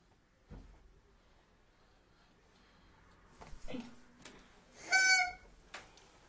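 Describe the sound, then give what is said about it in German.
Light knocks and thuds as a chair is carried about, then a brief scraping squeak as it is set down, followed by another soft bump, with no talking. “Hau dir nicht den Stuhl an den Kopf.”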